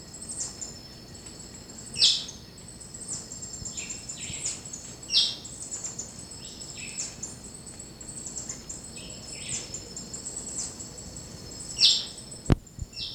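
white-chinned thrush harsh chirp

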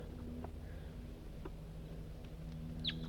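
bird call

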